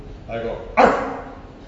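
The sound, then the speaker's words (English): A man's voice imitates a dog, starting with a low rumbling growl and then breaking into a sharp, loud bark. It is a single vocal burst with no real animal present. “Sure, I don't know how to translate dog language.”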